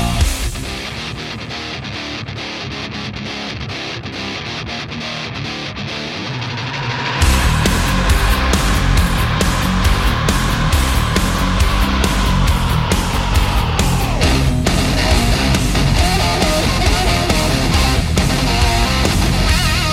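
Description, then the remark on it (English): A heavily distorted, low-tuned electric guitar, played with a pick across the strings, grinds alone for several seconds before a full band crashes in, building into a loud, dense, driving wall of heavy rock. “he tuned his axe down low. And he pulled that pick across the strings, and it made an evil hiss.”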